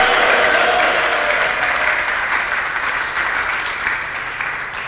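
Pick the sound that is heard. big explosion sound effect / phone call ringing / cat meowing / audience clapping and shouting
audience clapping and shouting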